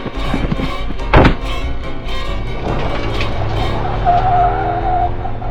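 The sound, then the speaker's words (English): A heavy thunk, then a car engine roars as the vehicle pulls away, its tires squealing in a sustained high skid. Loud, with no talking. “Xander, get in the car.”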